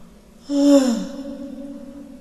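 A long, drawn-out yawn with a breathy rise that settles into a sustained, tired vocal tone, close and fairly loud, fading slowly at the end.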